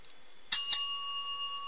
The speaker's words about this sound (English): Okay, the bell's fixed. It was, the volume was low on it, so I had to fix it. So I hope you hear it now. I don't want it just to be a chirp in your ear.